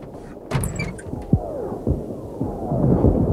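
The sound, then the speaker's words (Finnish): Artillery gunfire: several dull, low booms land at irregular intervals over a steady rumbling background, with no voices present. “Ammutaan. Siellä ammutaan.”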